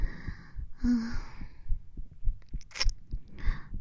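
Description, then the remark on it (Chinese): A woman's steady, muffled heartbeat thumps low throughout, its soft pulses coming quickly and evenly, with faint breathy rustling drifting over it at times and no one speaking. “可以听到我的心跳吗？”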